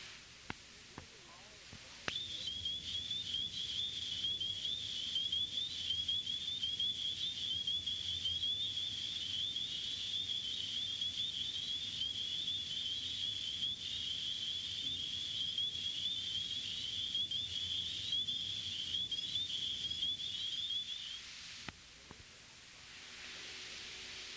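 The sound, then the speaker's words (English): A spring peeper frog (Hyla crucifer) calls with high, rising whistles that run together into a steady, shrill chorus for about twenty seconds, over a soft hiss of background noise, then stops abruptly. “It is easily recognized by the X on its back. The call is a rising whistle.”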